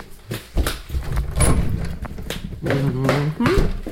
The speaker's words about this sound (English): That's a garage door.